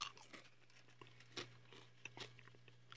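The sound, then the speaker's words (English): A man shovels food down, chewing with quiet, irregular crunching and wet mouth sounds, several soft bites spread unevenly over a few seconds, with no talking and a low steady hum underneath. “Look at him shoveling the food down and talking to his girlfriend.”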